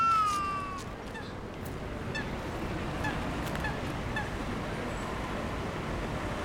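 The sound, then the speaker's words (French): A moorhen gives a sharp, strained call at the start, then a few fainter cries follow over a steady wash of outdoor background noise, by ponds. “Des poules d'eau, je crois, qui crient comme ça.”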